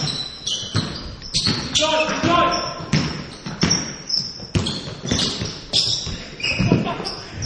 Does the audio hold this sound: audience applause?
no